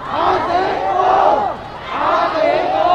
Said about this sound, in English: Protesters shouting, "My taxes, my taxes," a slogan often heard at protests in Bangkok. They're talking about taxes that uphold the palace.